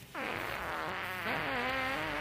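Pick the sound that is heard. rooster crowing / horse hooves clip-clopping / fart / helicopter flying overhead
fart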